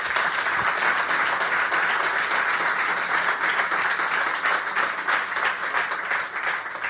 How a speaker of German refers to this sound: Den Applaus hätte ich auch gespendet, der ist verdient, ja, weil ich sehe das tatsächlich so.